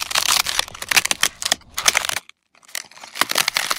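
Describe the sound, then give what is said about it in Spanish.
Dry, brittle crackling of a hummingbird eggshell breaking open as the chick hatches, in irregular crisp bursts that pause briefly, then resume with more small snaps and crinkles. No voices. “Con un decidido crujido, el cascarón que hasta ese instante había sido su hogar, cede y decide liberar al recién nacido colibrí.”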